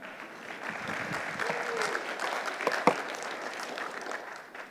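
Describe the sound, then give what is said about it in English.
An audience at a church claps steadily after a team's performance, a dense patter of many hands that holds level throughout, with a couple of sharper, louder claps standing out near the middle and faint murmuring underneath. “Okay, you can clap if you want to.”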